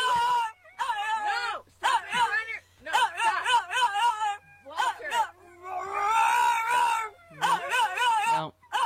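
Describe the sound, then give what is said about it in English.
A dog barks loudly in a string of drawn-out, whining, howl-like bursts, pausing briefly between them, with one longer yowl near the end, as someone commands it to sit, drop the phone and stop barking. “drop it, sit. No barking. He's like, it's going to be like Walter the dog.”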